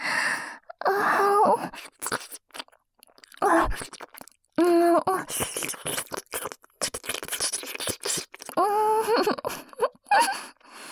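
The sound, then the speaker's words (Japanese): Wet, smacking sounds of licking a teacher's ear come in irregular bursts, mixed with heavy, breathy exhales and soft moaning vocal tones that rise and fall, with brief pauses between clusters. “私ったら先生のお耳舐めるのすっかり癖になっちゃってる。”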